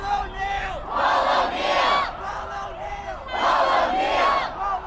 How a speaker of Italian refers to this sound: Paul O'Neill. Centinaia di ragazzi e di adulti gridano il suo nome mentre formano un serpentone che si snoda nel centro di Chicago.